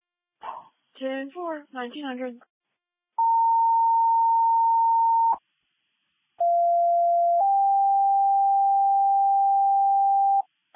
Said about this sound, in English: This has been a test of the Ellsworth County paging system and only a test.